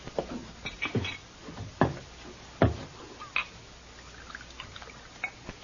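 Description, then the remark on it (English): A bartender pours a glass of rye, with a few sharp clinks and knocks of glassware scattered over a soft, trickling background, without any talking. “Glass of rye, bartender.”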